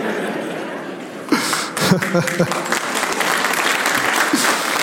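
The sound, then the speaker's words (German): An audience at a magician's show claps, starting with a low murmur and swelling into steady, dense applause, with a few chuckles and voices mixed in. “Also, euer Klatschverhalten sollten wir nochmal bedenken.”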